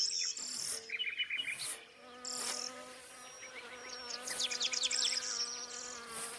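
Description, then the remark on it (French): Honeybees buzz in a steady drone that rises and falls as they move around, with light high-pitched chirps flickering above the hum. “on sait très bien que les abeilles, qui sont des véritables sentinelles, on le sait de la biodiversité aujourd'hui, ne sont pas toutes exactement en pleine forme”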